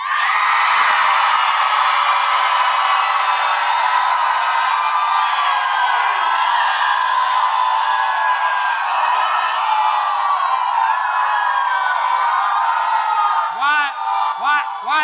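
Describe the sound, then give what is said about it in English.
A large church audience screams and cheers nonstop for about fifteen seconds at the preacher's request, a loud, dense wall of overlapping shrieks and whoops, with a few sharp individual yells rising near the end. “Somebody scream.”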